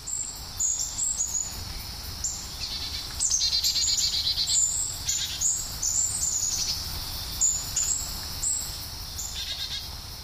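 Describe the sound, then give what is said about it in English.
A mixed flock of Carolina chickadees, golden-crowned kinglets, hermit thrushes and other species calls all around: thin, high chips and buzzy notes overlap in a steady, busy chatter over a soft background hiss, with no one talking. “This flock includes Carolina chickadees, golden-crowned kinglet, hermit thrush, and others.”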